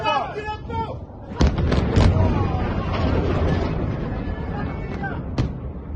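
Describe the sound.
Missile strikes on Tel Aviv explode in a series of heavy, rumbling booms at irregular intervals, each a sharp burst fading into a low roar, with indistinct voices heard faintly between the blasts; some missiles fall on the city while others are shot down on approach.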